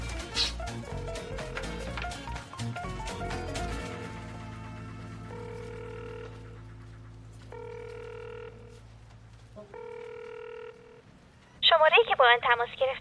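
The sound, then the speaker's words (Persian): A rapid burst of telephone keypad dialing tones as a number is dialed, followed by three longer evenly spaced electronic phone tones, then a recorded voice on speakerphone starts saying the number is not available on the network. “درسته، همین الان بهش زنگ بزن. باشه، سریع‌تر کلیدا رو فشار بده.”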